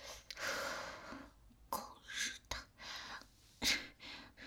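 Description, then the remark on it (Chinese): Several short, harsh coughs burst out at irregular intervals between heavy, breathy gasps, fairly quiet, with no talking. “这下好了，一位咳嗽，竟然漏了这么多尿出来。”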